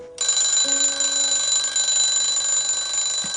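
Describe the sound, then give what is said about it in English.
A loud, continuous electronic alarm clock rings in the morning with steady high-pitched tones, sustained for several seconds without any voices, until a woman shuts it off. “Robin shuts off her alarm clock”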